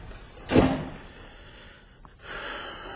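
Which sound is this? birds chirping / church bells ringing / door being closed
door being closed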